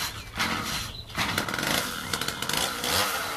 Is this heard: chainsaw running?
yes